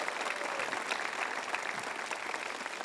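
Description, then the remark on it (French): A crowd applauds steadily, a dense wash of many hands clapping at once that holds an even, fairly loud level throughout without fading. “Ah, applaudissez plus fort que ça, ils le font chaque semaine.”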